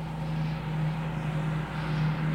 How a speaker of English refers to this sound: That truck's awfully loud. They have a lot of trucks coming.